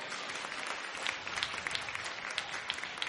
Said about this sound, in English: Go on and clap your hands because you know I'm telling the truth.